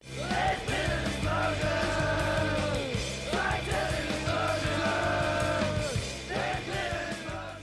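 A loud, dense burst of punk rock: distorted guitars, pounding drums and shouted vocals, steady and full-on throughout with no pauses.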